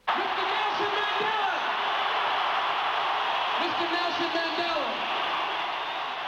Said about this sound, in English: Cheers and applause for Black nationalist leader Nelson Mandela as he entered a concert hall in London tonight where an anti-apartheid concert was held. More than 70,000 rock fans jammed that arena